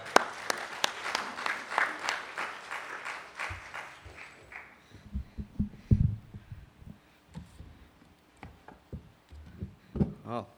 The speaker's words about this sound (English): So welcome Nick with a round of applause.